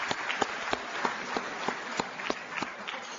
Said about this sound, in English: a sellout crowd of 350 executives from around the world here in Las Vegas tonight, making this by far the largest Stevie Awards for Sales and Customer Service event to date. This event marks the beginning. Sure, give yourself a round of applause.